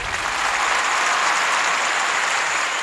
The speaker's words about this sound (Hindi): देखिए ये तालियां भी यहाँ जॉन ही ने खुद लगा दी, मगर बहनों भाइयों तालियां जायज हैं जॉन के लिए भी और नजमा के लिए भी।